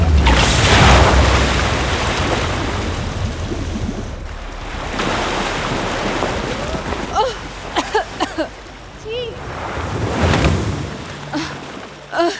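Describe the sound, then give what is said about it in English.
A lightning strike crashes in with a deep, rolling boom, followed by surging, surf-like rumbles that swell and fade, with a few short high chirps breaking through near the end. “I didn't mean for the lightning to hit you so hard.”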